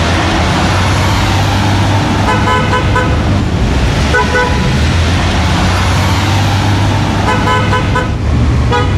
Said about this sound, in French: Alors vous, évidemment, c'est klaxon et cette voix, ça vous dit pas grand-chose. Des petits coups de klaxon dans une ville de l'Amérique profonde, oui, évidemment, c'est plus banal, il n'y a pas.